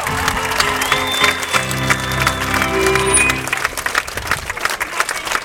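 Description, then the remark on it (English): A crowd applauds steadily for several seconds at a lifetime achievement award presentation, dense clapping with a few cheers mixed in, loud, with some background murmur as it tapers off. “There you go, round of applause for Mrs. Cornforth.”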